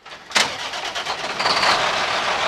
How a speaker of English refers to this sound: Mark Scott is getting ready to park his truck after driving from his 2,000-acre farm in Wentzville, Missouri, into St. Louis to drop off 1,000 bushels of corn and 900 bushels of soybeans at a grain elevator.